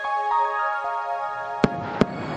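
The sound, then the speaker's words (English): Twin sonic booms from the space shuttle arriving at its launch site in the pre-dawn sky: two sharp, loud bangs less than half a second apart, following a steady background hum that gives way to a low rumbling hiss. “Piercing the pre-dawn sky as the space shuttle announces its arrival at the launch site with its signature sound of twin sonic booms having gone subsonic for the last time.”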